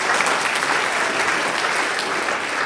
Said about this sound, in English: So good job. Can y'all give them a round of applause? Good job.